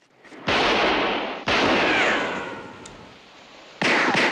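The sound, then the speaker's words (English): A volley of gunfire in an exchange of fire with a driver taking cover behind his car, the bullets shattering a car windscreen: three loud, sharp shots with long roaring tails, the first two a second apart, then a pause before a third blast near the end. No voices. “They exchange fire, and Lon shatters the windscreen with a volley of bullets.”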